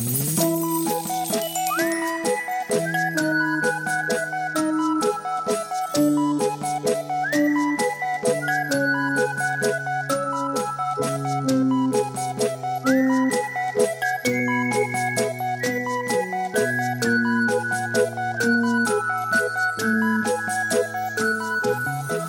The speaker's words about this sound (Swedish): Rulla jingel.